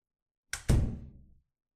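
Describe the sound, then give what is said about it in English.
A door swings shut with a quick latch click followed by a solid, resonant thud that rings briefly and fades; fairly loud, with no talking. “Why close the door?”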